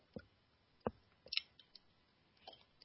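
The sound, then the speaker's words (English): Someone takes a quiet sip of a drink, with a few soft clicks and small mouth sounds spaced out over a couple of seconds in an otherwise hushed room, no talking. “Get another sip here.”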